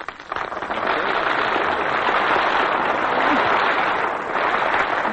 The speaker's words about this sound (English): See what you did? You applauded too soon.